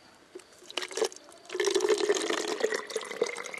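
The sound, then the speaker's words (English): Water is poured into a hiker's bottle on the Bright Angel Trail below the canyon rim: a few brief splashes and gurgles, then a steady, bubbling pour that continues for a couple of seconds with no one talking. “So if that's all the water you got, you can probably use some more. You want some? I got some.”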